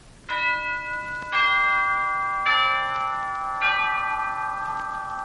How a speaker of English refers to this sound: C is for chimes, the echoing plain song of Christmas.